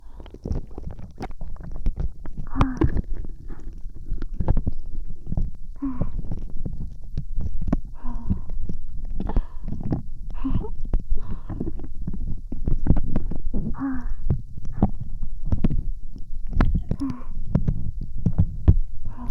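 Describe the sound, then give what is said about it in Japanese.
Fizzing carbonated fluffy "moku moku" slime pressed against the ear: a steady, dense crackle of tiny pops over a low, squishy rumble, with occasional wetter squelches and no voices. “ただ炭酸の音がより聞こえるように耳 で行ったって。”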